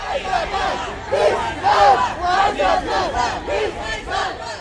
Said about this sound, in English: Their parents stand a few feet away with 60 other Ku Klux Klan members holding placards protesting a Harrison Pride Parade. The air vibrates with chants and counter-chants.